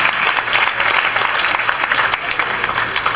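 A crowd applauds steadily, a dense, even wash of clapping hands that stays loud throughout with no voices rising above it.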